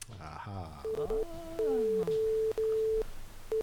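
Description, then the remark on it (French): A steady electronic tone pulses in short and long Morse code beeps over a constant hiss of white-noise static, picked up on a radio by turning a knob, with a voice briefly speaking near the start. “Mais un étrange signal composé de bruits blancs, entrecoupés de bips plus ou moins longs.”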